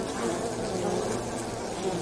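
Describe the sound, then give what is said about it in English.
A steady, dense hum of many honeybees buzzing together, continuous with no breaks, filling the whole moment like a busy hive entrance. “I'm …, and I love bees.”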